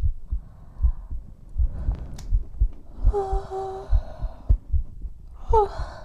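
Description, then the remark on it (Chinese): Soft snoring: two drawn-out, breathy snores with a faint whistling tone, set over a steady run of low, muffled thumps. No one speaks. “不知道为什么，听着你打呼噜。”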